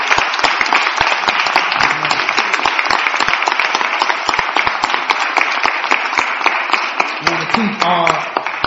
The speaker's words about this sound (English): And let's give him another hand clap. Say we thank you. We support you. Amen.